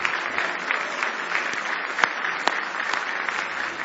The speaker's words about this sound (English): Somebody give the Lord a big hand clap of praise.